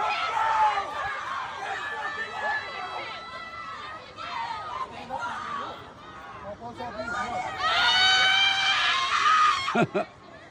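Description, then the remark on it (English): A woman, a professor, screams and shrieks at length amid a clamor of students' voices, her cries loud and strained, rising into piercing high-pitched yells near the end before breaking off. “That's a so-called professor. That's the devil in her. That's Satan screaming.”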